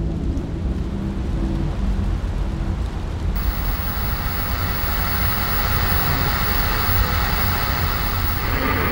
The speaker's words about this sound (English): Calling it the storm of the century. So batten down the hatches, folks, and stay off the road. It's only going to get worse before it gets better. The rain slashes across the windshield in torrents as you wind down a dark, tree-lined road